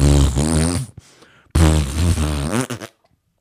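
Two loud, drawn-out fart sounds with a buzzy, low tone, the first lasting about a second and the second longer and sputtering out, separated by a brief gap.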